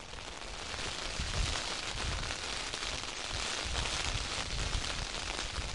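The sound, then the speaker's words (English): Heavy rain lashing down on open moorland, a dense, unbroken hiss that holds steady throughout, with low buffeting rumbles underneath. No voices. “I'd much rather be out here being lashed by the rain.”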